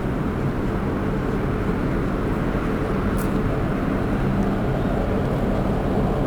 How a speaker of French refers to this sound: Le vent du large.